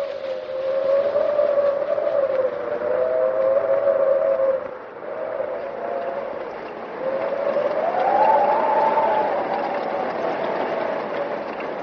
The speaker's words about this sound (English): Oh, we've had some bad windstorms, but gee, this is the worst yet.